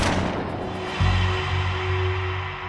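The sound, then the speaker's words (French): A single sharp gunshot cracks at the very start and decays quickly in the garage of an apartment building in Hauts-de-Seine, France, on the afternoon of 29 March 2018. It is fired at a man who has just stepped out of his car. A low, steady rumble and hum follows. No one speaks. “Un coup de feu est tiré.”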